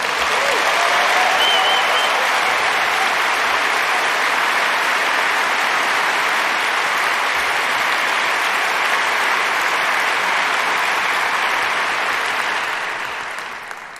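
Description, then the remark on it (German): Steady audience applause for Let's Encrypt fills the whole stretch, a dense wash of clapping that stays loud and even before fading slightly at the very end. No one speaks over it. “Applaus für Let's Encrypt.”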